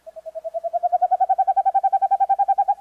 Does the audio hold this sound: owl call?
yes